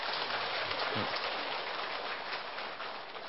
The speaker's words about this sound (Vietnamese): Xin lỗi, ở trong này ai là người đã có mặt và tu tập từ năm thứ nhất cho đến bây giờ vẫn còn có mặt hôm nay đâu? Các vị đưa tay xem ơi. Dạ, xin chân thành cảm ơn các vị, cho tràng pháo tay.